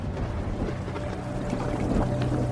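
Rain pours steadily into a waiting room where doctors deliver news of a terminal cancer diagnosis, a continuous rush of splashing water over a low rumbling hum, with no voices.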